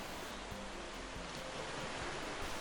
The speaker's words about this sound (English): I could feel the ocean rustle in the air beneath my feathers.